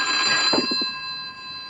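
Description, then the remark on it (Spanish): A telephone rings with a steady, high electronic tone that persists throughout, briefly joined by a few low rapid thumps partway through. No one speaks. “¿Crees que debemos contestar el teléfono?”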